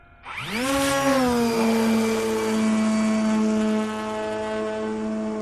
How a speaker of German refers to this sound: startet die Motoren mit einem Fingertipp. Senkrecht wie eine Rakete schießt die Drohne in die Luft.